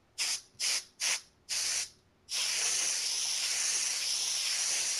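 Compressed air sprays at a keyboard in four quick hissing bursts, then one long steady blast that keeps going. The sharp, bright hiss is fairly loud, and no one speaks.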